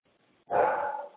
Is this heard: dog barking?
yes